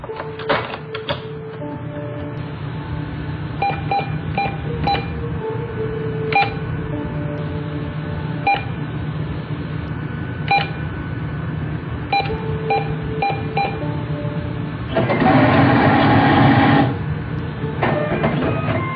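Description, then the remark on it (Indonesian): Short electronic ATM keypad beeps repeat in an irregular pattern over a steady mechanical hum as someone withdraws money, then a loud whirring, rustling burst sounds for a couple of seconds as cash is dispensed, followed by a few more beeps. “Aku pun masuk ke ATM itu. Dan langsung mengambil beberapa uang.”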